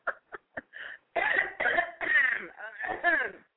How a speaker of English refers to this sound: Excuse me. Trying to clear my throat, y'all.